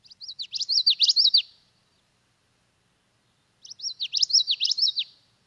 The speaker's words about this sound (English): I was out walking in the Wabisa wetlands yesterday, and I heard a common yellowthroat. So we're going to play the common yellowthroat for me